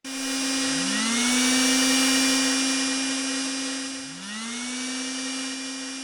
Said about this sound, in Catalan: Hi havia un aspirador i el Biel el va agafar i va aspirar el fantasma.